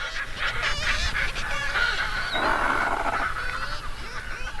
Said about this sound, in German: Dies Gekreische, schrille Gezeter, als müssten sich Seevögel gegen die Lautstärken des Meeres behaupten. Hier an den roten Klippen der Lummenfelsen an der Nordspitze Helgolands. Die Felskuppen sind weiß von Basstölpel und Dreizehnmöwenkolonien.